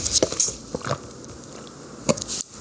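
A big gulping sip of water, heard as a few wet, clicky mouth and swallowing sounds in quick bursts, with a short pause between them and no talking.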